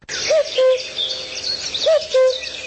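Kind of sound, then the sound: bird, common cuckoo song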